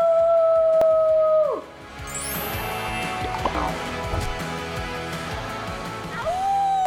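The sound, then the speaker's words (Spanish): A person imitates a wolf howl: a long, steady, fairly loud note that slides downward, then a busy noisy stretch, and a second howl rising in near the end. “Bueno, y yo aullo así. ¡Au!”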